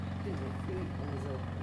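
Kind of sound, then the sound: machine, lawn mower running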